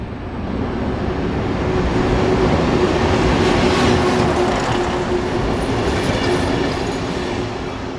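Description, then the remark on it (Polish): A train rolls into a station on the Dzierżoniów–Bielawa railway line (line 341) in Lower Silesia, Poland, its loud, steady rumble swelling in over the first second, with a faint metallic whine running above the roar before it eases slightly at the end. “Podczas wjazdu pociągu proszę zachować ostrożności, nie zbliżać się do krawędzi peronu.”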